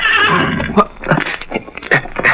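A horse named Victor gives a loud warning whinny at night under a full moon, a long shrill neigh that wavers and breaks into several shaky bursts before trailing off.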